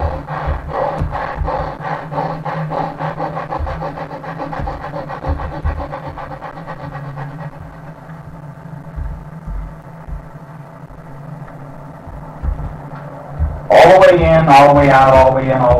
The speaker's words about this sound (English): We also gave you a breath of fire that you could pull yourself into the body in consciousness in the morning simply by putting your hands on your hips, putting your head back and breathing in the breath of fire as so.